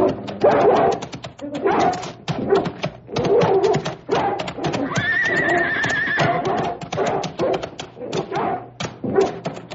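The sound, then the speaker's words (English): A dog barks in rapid, loud, repeated bursts, with a high whinnying cry rising midway through the frantic commotion. “Please, please turn the dog loose. Get him!”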